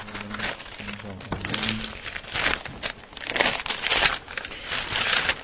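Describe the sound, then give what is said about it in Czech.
Steady rustling and crinkling of plastic bags as archaeological finds from Podlažice (earrings, a ring, pieces of pottery, a buckle) are pulled out of them, with soft crackles and shuffles throughout and a faint low hum in the background early on. “vytahuje ze sáčků nálezy z Podlažic.”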